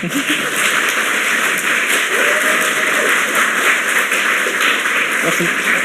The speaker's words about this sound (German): Applaus, Applaus.